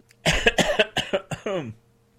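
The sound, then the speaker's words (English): A burst of several harsh coughs in quick succession from a person whose throat is getting rough, ending with a strained, rasping throat sound, loud with no talking. “sorry for the coughing, by the way.”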